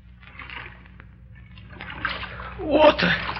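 Seawater sloshing around an open boat, soft uneven washes that build into a louder splashing surge near the end, over a steady low rumble.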